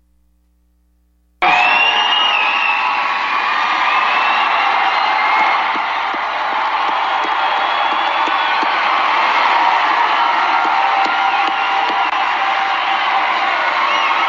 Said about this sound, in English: Now, all that cheering you're hearing right there, that's for Kayleigh McEnany, Donald Trump's wonderful new press secretary.